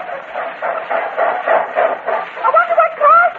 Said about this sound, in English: The train now. I wonder what car she's in.